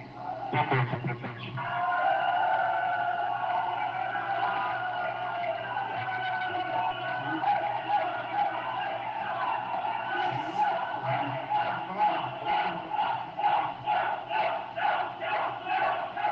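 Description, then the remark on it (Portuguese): A large crowd at a city council session shouts and boos the council members continuously, a dense roar of voices that swells after a brief opening burst and keeps up loudly, with rhythmic pulses of chanting toward the end. “Pois é, todo mundo gritando, né? Vaiando os vereadores, que ninguém quis falar.”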